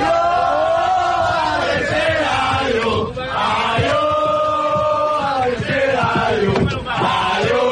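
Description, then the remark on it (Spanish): Players of Unión Deportiva Tamaraceite football team shouting and cheering together, celebrating promotion to Spain's Segunda División B after winning the final 2-1 against San Fernando in La Frontera, El Hierro; loud and continuous, with many overlapping voices chanting and yelling in rising and falling waves for several seconds. “Tercera, adiós, así celebró el Tamaraceite el ascenso hacia la segunda división B del fútbol español.”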